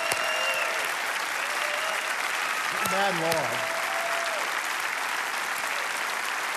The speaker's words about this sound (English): Give a great hand clap to Jesus. Come on.